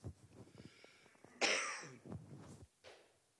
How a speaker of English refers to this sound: When it comes to inputs, you'll have to excuse me when I stop, because if I continue, I will cough.